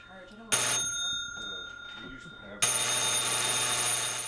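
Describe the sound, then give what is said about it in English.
A cobbler shop's door buzzer on College Avenue in Fayetteville, heard from the workroom, sounds twice, loud and harsh: a short blast, then a longer, steady buzz lasting nearly two seconds. Muffled voices talk in the background between and beneath the buzzes. “The door buzzer heard from the workroom of Clarity's Cobbler Shop on College Avenue in Fayetteville.”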